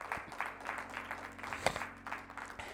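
crowd, audience clapping hands

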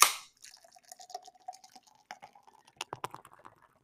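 food or drink, beer pouring

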